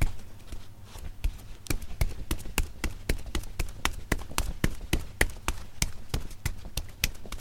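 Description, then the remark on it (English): Rapid, regular footfalls of someone running along a street, sharp slaps repeating steadily at roughly three per second over a low background rumble, with no voices. “Okay, that's not the actual sound of Daniel Lieberman running down the street, but it could be.”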